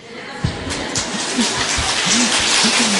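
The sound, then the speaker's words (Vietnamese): An audience at a Buddhist teacher's talk applauds in a steady, dense wash of clapping that builds slightly and holds for about three seconds, with faint murmuring voices underneath. “Cái gì vỗ tay này, thầy đang kiếm đồng minh.”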